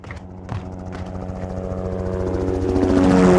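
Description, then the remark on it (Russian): A helicopter drones steadily with a deep, throbbing rotor and engine hum that grows louder over a few seconds, as if approaching or passing overhead, flying over scorched land and ruins. No one speaks. “Выжженные просторы под брюхом вертушки сменились квадратами развалин.”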